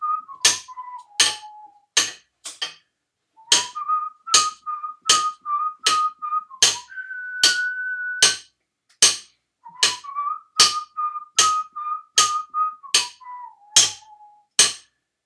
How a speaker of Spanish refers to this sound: Venga, vamos a intentar tocarla. Haz tu ritmo. Yo hago el silbido.